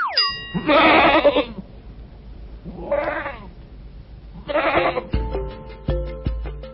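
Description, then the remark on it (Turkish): A goat bleats three times, loud, each cry a short quavering burst with pauses between, followed by a bright ringing musical jingle at the end. “Bu canlının adı keçi.”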